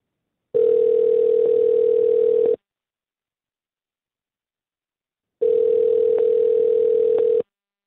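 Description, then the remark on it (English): Two long, steady ringback tones from a phone call being placed to a woman, ringing on the other end, each about two seconds, separated by a silent pause. No one speaks. “Well, let's give her a ring and see if we can get her on the phone and give us some answers.”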